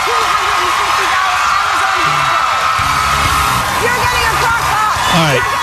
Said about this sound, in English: This woman gives away crock pots, and the crowd goes nuts.